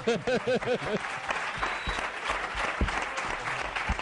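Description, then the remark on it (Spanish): An audience at a school, during a radio programme, breaks into steady applause, a dense wash of clapping that carries on for several seconds, with a brief burst of voices at the start before the clapping takes over. “Pero mira, y te aplauden incluso por ahí.”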